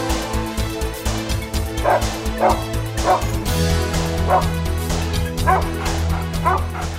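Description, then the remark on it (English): A dog lying down by a door whimpers and gives short yipping barks, repeated every second or so, over a steady sustained musical drone that shifts pitch midway through. “He just lay down by the door and cried.”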